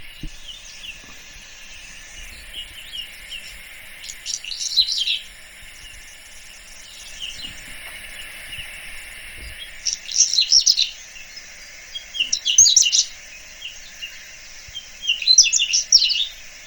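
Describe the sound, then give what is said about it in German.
A whinchat sings four short, high, scratchy and crackling phrases separated by pauses of a few seconds, over a steady high-pitched background buzz. No one speaks. “Und jetzt lasse ich mal das Braunkehlchen singen.”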